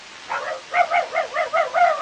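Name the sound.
dog barking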